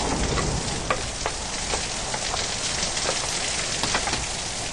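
Steady rain pours down in a dense, even hiss with wind, and scattered sharper drops pattering; no voices, just the continuous wash of wet weather outdoors at a bus stop.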